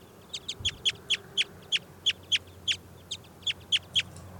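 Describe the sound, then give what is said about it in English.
A caged bird calls with a steady run of about fourteen sharp, bright chirps, evenly spaced and fairly loud, over a faint low hum, with no talking. “The wild bird just went down and is right next to 404's cage.”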